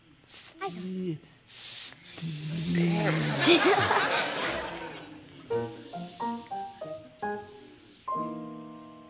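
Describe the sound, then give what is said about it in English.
A loud, drawn-out steamy hiss rises for a few seconds, flanked by brief voices and chuckling, with short voiced bursts continuing after the hiss fades. “Water vapor, steam. Steam, that's it.”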